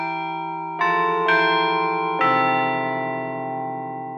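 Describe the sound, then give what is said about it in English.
A Chime Master digital carillon, playing digital recordings of actual bells, rings out a slow melody, a few resonant strikes at different pitches whose long, shimmering tones overlap and hang in the air. No voices are heard. “The Chime Master Carillon features state-of-the-art digital recordings of actual bells.”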